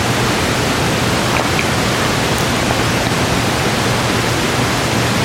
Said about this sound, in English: If you want somebody to know what the rain sounds like, you come have them listen.